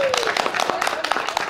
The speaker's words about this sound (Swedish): En liten applåd till er själva tycker jag.